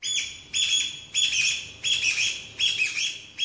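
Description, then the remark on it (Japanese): A recording, played from a bird app, of a Chinese bamboo partridge (kojukei), whose call is said to sound like 'chotto koi': it calls in loud, repeated bursts, five shrill phrases in steady rhythm with short pauses between, clear with no talking. “中でもですね小樹系という鳥がいまして、鳴き声がちょっと濃いに聞こえるんですって。”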